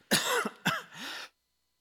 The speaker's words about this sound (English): I'm going to cough, so just block your ears.